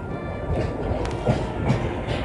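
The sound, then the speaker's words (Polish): A small train rumbles past on rails with a steady low roar and periodic clacking bursts from the wheels, loud throughout, with no one speaking. “No i pociąg mi tu jedzie.”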